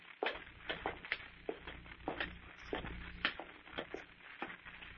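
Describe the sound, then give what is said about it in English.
Footsteps climbing stairs: a quick, uneven run of a dozen or so scuffing thumps and creaks, moderately loud, over a low steady hum with no voices. “Well, I'll follow you then. Up these stairs.”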